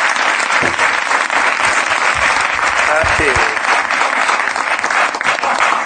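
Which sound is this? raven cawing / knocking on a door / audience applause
audience applause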